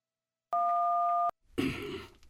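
A telephone in a director's office is picked up and dialed: one steady two-tone keypad beep, then a brief clatter and rustle of the handset. No one speaks.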